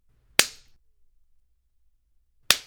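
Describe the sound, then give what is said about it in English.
Two sharp, loud slaps of a hand against skin, about two seconds apart, each a crisp smack with a quick fade, with no talking. “You will thank me for every slap I give you.”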